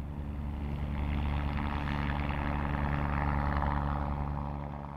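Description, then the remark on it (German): An approaching helicopter's steady, low droning hum with layered engine tones swells in loudness over the first second, then holds strong and even before easing slightly at the end. No voices. “Ein Brummen kündet den Helikopter an.”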